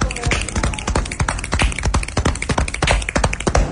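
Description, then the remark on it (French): A table creaks at Le Monde diplomatique, with people gathered around it over the April issue, number 625: a dense run of irregular knocks, taps and wooden creaks that clatter steadily for a few seconds with no clear voices. “Voilà, vous entendez une conversation et des grincements de table, et donc on est au Monde diplomatique autour du numéro du mois d'avril.”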